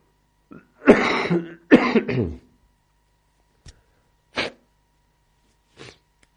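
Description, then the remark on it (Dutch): Two fairly loud, rough coughs come close together near the start, followed by silence broken only by a few faint, brief clicks. “Af en toe een kuchje tussendoor.”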